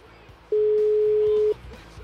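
A telephone rings once: a single steady electronic beep lasting about a second, loud, standing out over a quiet low background hum.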